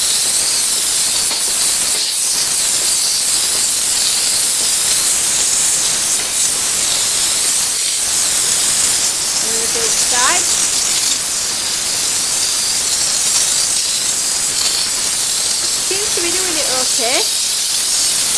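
steam hissing

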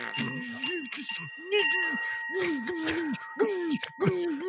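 bell rung repeatedly

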